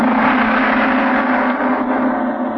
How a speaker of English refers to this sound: The reception hall of the Bahrainian embassy is large, opulent, and beautifully furnished in a Middle Eastern style. A gong crashed out.